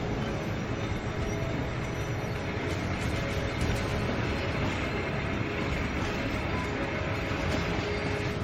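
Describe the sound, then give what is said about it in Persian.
A train starts to move as the last soldiers board, rumbling and rattling steadily along the tracks, loud, with a continuous heavy mechanical roar and faint metallic squeals throughout. No one speaks. “قطار راه میافته.”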